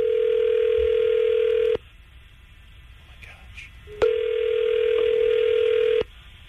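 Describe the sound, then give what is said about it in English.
Ringback tone of an outgoing phone call placed by Tampa Bay's Morning Crew on radio station 995 QIK to a listener: two steady, mid-pitched buzzing rings, each about two seconds long, separated by a quiet pause with a faint line hiss. “I think Kevin's got it ringing right now.”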